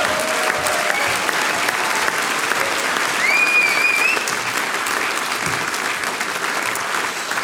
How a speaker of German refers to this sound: Und ich darf mit einem Applaus zu mir bitten, den Bürgermeister von Dannhausen, Johannes Hiebler-Dexer. Das ist ein Applaus.